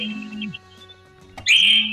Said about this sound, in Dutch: Hoor jij die telefoon ook of niet?